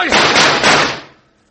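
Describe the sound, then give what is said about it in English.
A rapid burst of gunshots in a shootout between vigilantes and a gang blurs into a loud, harsh volley for about a second, then trails off into a fading echo. “Now, we must have got him, Hank.”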